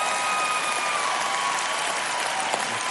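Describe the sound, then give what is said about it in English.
A church audience at Woodstock City Church applauds steadily for the full three seconds, a dense, even wash of many hands clapping at a consistent loudness with no voices rising above it. “See, they don't clap for me at North Point Community Church.”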